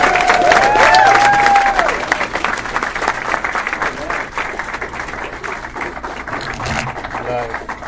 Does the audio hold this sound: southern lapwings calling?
no